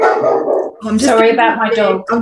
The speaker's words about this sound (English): Right, dogs, your dog's got an opinion. That's right. They should be asked.